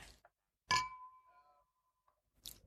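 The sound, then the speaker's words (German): Glasses clink together in a toast: one bright strike rings out with a clear tone that fades over about a second, followed by a short, softer knock of glass near the end. “Prost, Jungs. Genau. Prost. Prost.”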